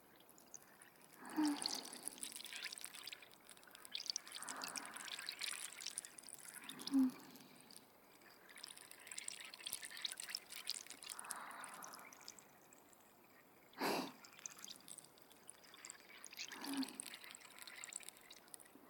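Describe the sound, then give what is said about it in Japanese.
Soft fizzing of a carbonated drink being poured, with bubbly crackle swelling in a few slow waves and an occasional sharper splash, no voices. “シュワシュワで頭いっぱいになっちゃうね。頭の中に直接炭酸を流し込まれてるイメージ。”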